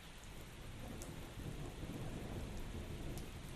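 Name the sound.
heavy rain falling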